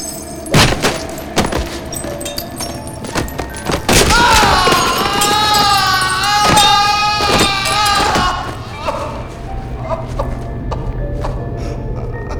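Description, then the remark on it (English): A man with a walking stick slips and tumbles down the stairs into a station in a series of heavy, irregular thuds and clatters, with a wavering, strained vocal cry rising over the impacts midway before things settle into quiet background noise. “He's sprawled on the stairs on his back, head downwards.”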